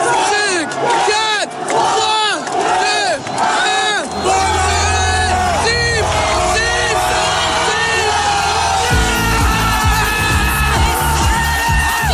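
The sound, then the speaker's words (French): Thousands of football fans in the fan zone on the grande place in Lille erupt in loud, sustained cheering in front of a giant screen at the final whistle of the 2018 World Cup final, France vs Croatia. Shouts and whoops rise above a dense roar, and partway through a heavy low rumble joins in as the noise swells. “Au coup de sifflet final du match France-Croatie, la grande finale.”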